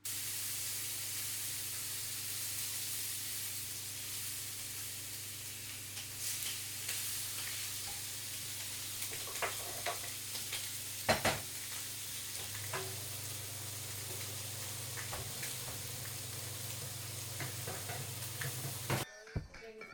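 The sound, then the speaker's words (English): A steady sizzle with faint bubbling and scattered pops and crackles from blueberry queso buns bubbling as they bake in a hot oven, heard alone without any talking. “There's a sizzling noise. Not sure if it picks up of the blueberry queso buns. They're bubbling.”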